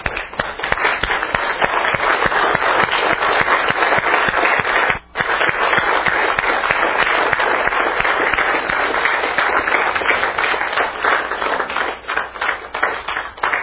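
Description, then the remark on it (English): A standing church audience gives a long, steady round of applause, many hands clapping in a dense, loud patter that barely lets up, with only a momentary dip partway through. No one speaks. “I think we ought to stand and give this church a good round of applause for all they've done in serving us this week.”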